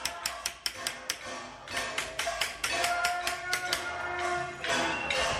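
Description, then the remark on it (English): Someone knocks on the door of the mayor's main offices at City Council in a long, uneven run of sharp raps, fairly loud and continuing for several seconds with no one speaking. “And there's a knocking on the door of the mayor of City Council's main offices.”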